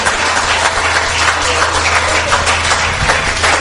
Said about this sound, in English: Praise the Lord. Give the Lord a cheer. Give the Lord a mighty cheer. Hallelujah.